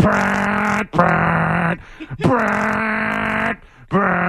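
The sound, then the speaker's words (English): A man loudly imitates the modded car exhaust of a car on a street in Melrose with his voice, a sustained buzzing, sputtering drone in bursts, each roaring blast broken by short pauses and gasps. “Yeah, I'm going to mod my car, bro, so that I can announce that I'm coming around.”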